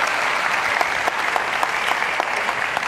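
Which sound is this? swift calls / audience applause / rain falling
audience applause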